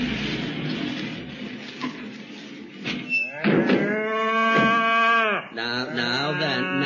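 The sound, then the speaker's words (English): Two long, loud cow moos at night, the first drawn out and the second following right after, preceded by a few seconds of rustling farmyard background noise. “Now go to sleep, you cows.”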